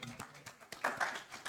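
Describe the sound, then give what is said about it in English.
Scattered audience clapping for a speaker at the end of a talk, quiet and irregular, with a few sharper claps rising over a soft wash of hand noise and a brief vocal cheer midway. “A round of applause for”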